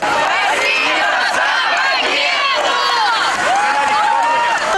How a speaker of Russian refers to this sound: Ветеранов приветствуют дети. Доносятся слова благодарности, песня… и просто «Ура!».